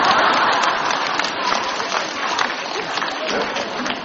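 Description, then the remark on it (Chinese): An audience breaks into sustained applause after the speaker chides them for not clapping: a dense, steady crackle of many hands clapping at once that stays fairly loud for the full few seconds with no voices standing out. “刚刚还说你们很开悟的，鼓掌都不知道”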